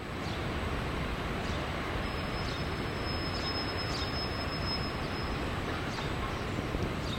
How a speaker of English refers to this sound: All right, would you like to step outside and hear the roar of the falls?